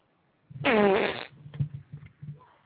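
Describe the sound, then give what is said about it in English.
A long, loud, buzzing fart opens, followed by three or four shorter, lower sputtering bursts in an uneven rhythm, with no talking. “Oh, you heard farts.”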